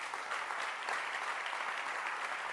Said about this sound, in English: I allowed her to, and I really enjoyed yours. Please clap your hands for her. Beautiful.